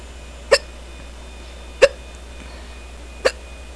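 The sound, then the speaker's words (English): Three sharp, abrupt hiccups in quick succession, evenly spaced just over a second apart, against a quiet background with no talking. “Oh, these hiccups are pretty fast.”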